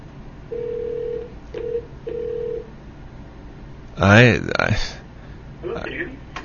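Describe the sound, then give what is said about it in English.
A telephone line being dialed and ringing gives a few short, steady electronic tones, one long and two briefer beeps, followed by a burst of a voice and some fainter muffled sound near the end. “All right, well, we'll use the other telephone line then and see what happens”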